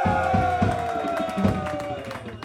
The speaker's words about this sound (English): a big applause and applause for you guys for …